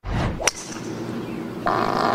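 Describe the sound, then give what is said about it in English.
A sharp crack rings out as a golfer tees off on the first hole of a tournament's final round, over steady outdoor background noise, and soon after a buzzing, raspy fart, picked up by TV microphones with no crowd present, sounds and carries on to the end, fairly loud. “Jim, it's gone down as sport's greatest fart.”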